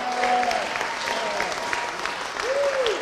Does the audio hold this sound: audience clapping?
yes